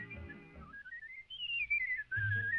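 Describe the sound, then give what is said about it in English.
A man whistles a clear, flowing tune, the melody gliding up and down with smooth slides, loud over a soft low background. “Wow, I think you can hear there that he was a pretty amazing whistler.”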